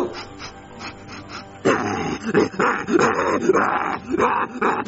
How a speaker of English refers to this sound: Why is there even a rabid dog in this neighborhood? Oh, man, that's my dog.